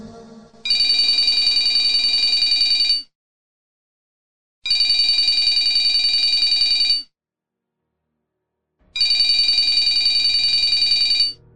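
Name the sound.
telephone ringing insistently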